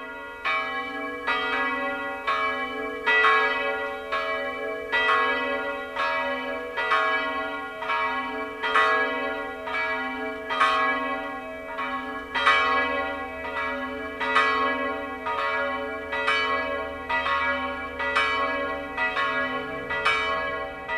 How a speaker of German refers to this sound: Das Mittagsläuten kommt heute aus der Filial- und Wallfahrtskirche Allerheiligen bei Warngau in Oberbayern.